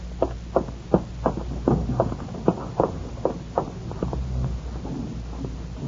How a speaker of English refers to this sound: footsteps ring out of the dim corridor beyond her cell. Looks up as she sees a guard approaching.